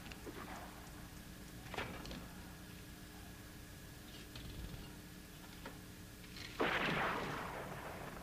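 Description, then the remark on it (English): A single sharp, loud gunshot cracks out near the end, with a reverberant tail fading afterward; a few faint mechanical clicks and knocks come earlier against a quiet background. “Looking back over his shoulder toward the gunshot, he gets off his bike and walks it down the laneway.”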